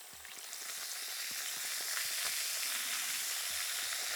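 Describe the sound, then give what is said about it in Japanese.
Steady, dense fizzing of carbonated spring water used to rinse the ears during an ear-washing treatment, a bright crackling hiss packed with tiny popping bubbles that holds at an even level throughout, with no voices. “炭酸泉を使って洗い流しますよ。”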